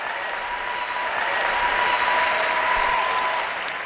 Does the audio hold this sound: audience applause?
yes